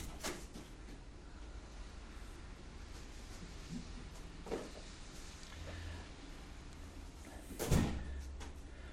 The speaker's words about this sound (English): We have somebody coming in. Would you open that door for him? There we go.